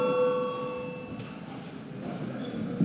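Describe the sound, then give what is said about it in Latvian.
An electric bell rings with a steady, sustained metallic tone for about a second, then cuts off, leaving quiet murmur, in a parliament chamber, calling members to vote on a draft decision. “Lūdzu zvanu.”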